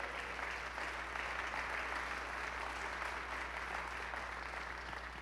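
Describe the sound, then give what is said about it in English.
A church audience claps hands to give praise to God, a dense, steady wash of applause from many people that holds evenly throughout, with a low hum underneath and no clear speech. “Come on, let's clap our hands and give him praise.”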